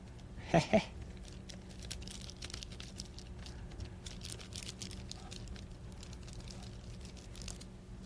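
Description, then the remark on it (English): Finger paint, including blue, smeared with a finger on an old piece of wax paper: two quick, louder crinkly dabs at the start, then soft sticky rubbing and faint crackles of the paper continuing steadily, with no talking. “That goes right on the wax paper.”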